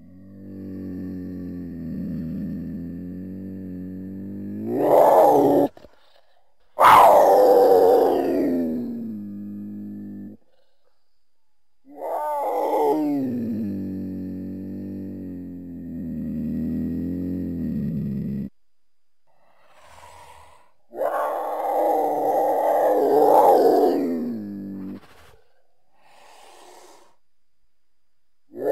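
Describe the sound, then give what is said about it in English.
A mountain lion gives several long, strained, wailing calls separated by short silences, each rising into a harsh, breathy edge before cutting off; fairly loud, with no talking. “The only one that I think was like closest was a mountain lion.”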